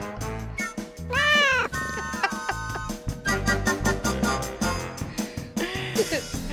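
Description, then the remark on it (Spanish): A person loudly imitates a cat, giving a drawn-out, wavering meow, then a second shorter meow near the end, with other voices chattering and laughing around it. “Ay, maulla, …, porfa.”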